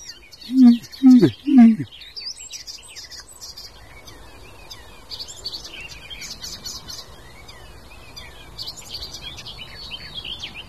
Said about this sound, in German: Ich würde sagen, das war alles so von jedem Vogel ein bisschen eben. Das klang doch wie eine aufliegende Amsel so ein bisschen. das war doch mal eindeutig ein Rotmilan.